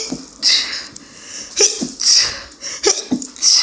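sneeze

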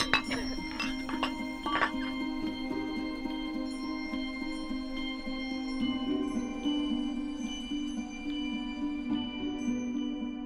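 wine glasses clinking

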